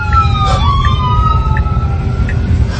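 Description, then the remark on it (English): An ambulance siren wails loudly over heavy road rumble, its tone sliding downward early on as the ambulance passes a robo-taxi that has pulled over for it. “The robo-taxi just pulled over for the ambulance.”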